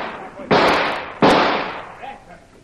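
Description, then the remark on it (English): Two loud, sharp blasts about a second apart blow open a door lock. Each hits hard and trails off in a long hissing roar, followed by faint murmuring voices. “I'll blow the lock.”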